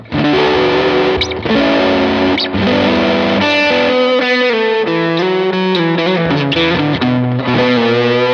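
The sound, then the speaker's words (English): Electric guitar through a thick fuzz pedal in its green mode, with a clean delay trailing the notes, playing a loud, sustained melodic line with shifting pitches and no voices. “And then the other way, so this is green mode, and like I would probably run some cleaner delays, maybe a little less echo, and lean on more on the fuzz on this one.”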